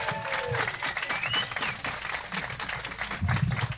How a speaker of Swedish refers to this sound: En varm applåd till Aron Flam. Aron Flam!